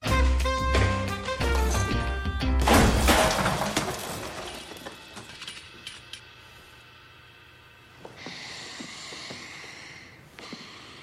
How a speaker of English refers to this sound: he grabs a folding chair, you'll hear it, and hurls it at Andrew